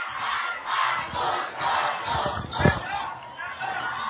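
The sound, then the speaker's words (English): A football crowd at a close game between Foothill and Enterprise roars and cheers in a steady, dense wash of voices, swelling and dipping in waves, with a brief thump partway through rising above the noise. “We have an interesting crowd here.”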